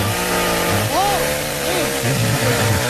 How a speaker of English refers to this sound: Most of this is for your friend right here. It's a chainsaw. Maybe they like that sound.